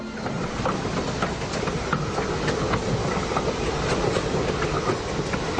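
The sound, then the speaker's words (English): A steam train runs along railroad tracks on a new railroad reaching Cleveland on a cold fall day in 1863, with a steady, dense rumble and repeated rhythmic clacking of the wheels, fairly loud throughout, with no voices. “Rockefeller saw the future one cold fall day in 1863 when a new railroad reached Cleveland.”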